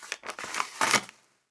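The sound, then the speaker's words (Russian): Paper rustles in a few quick crinkly bursts as pages of a case file are leafed through, ending in a louder papery slap as the file folder is noisily shut. It is fairly loud, with no voices. “ненужно перелистал листы в каком-то случайном деле, притворившись, будто внимательно вчитывается в страницу, а потом шумно захлопнул это дело”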